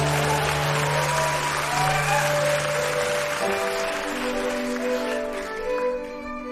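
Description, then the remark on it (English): An audience claps for the sketch "Queer Eye for the Regency Guy, part two" in a dense, steady wash of applause that holds loud for the whole stretch, with sustained musical tones playing underneath and no one speaking. “What will happen, we do not know, but please give a warm round of applause for Queer Eye for the Regency Guy, part two.”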